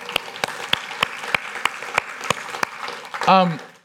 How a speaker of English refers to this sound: By the way, thank you all so much for volunteering. I know it's a ton of work. Could we give these guys a huge hand clap?